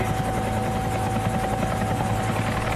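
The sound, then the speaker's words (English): A helicopter hovers over the Grand Canyon, trying to hold a stationary position, its rotor thumping in a steady rapid pulse over a constant droning engine hum, loud and continuous with no voices. “Helicopter's trying to maintain a stationary position.”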